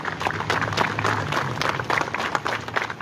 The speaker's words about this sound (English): Dozens of the public hospital staff break into applause to encourage patients struggling with COVID and honor those who died.